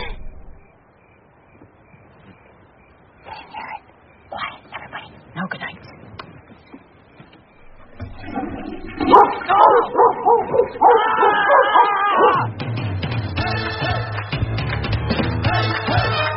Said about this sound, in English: If that stupid train is going to wake up those stupid dogs, they're going to start their stupid barking and